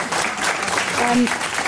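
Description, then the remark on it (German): An audience breaks into applause, a dense, steady wash of many hands clapping at once, with a faint voice briefly audible underneath. “Wie, ja, ich habe jetzt gehört, ich habe gerade einen Applaus initiieren, dürfen Sie also durchaus.”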